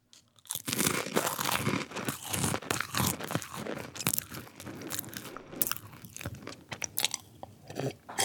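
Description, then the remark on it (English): Loud crunching of crackers being chewed, with rapid irregular crisp bites and crackles continuing steadily throughout, no talking. “brought out some crackers”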